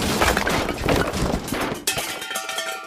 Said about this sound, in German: Plötzlich hörte Minus ein lautes Rumpeln und Scheppern aus der Küche.